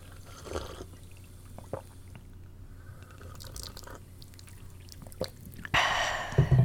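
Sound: sipping coffee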